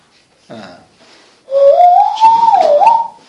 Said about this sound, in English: It's the air. It's old skill. The air goes through my fingers and makes my hand into like a whistle, basically.